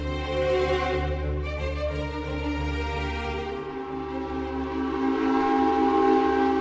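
A steam train's whistle sounds in one long, loud, steady blast with rich layered tones, over a constant low rumble of the locomotive for about seven seconds.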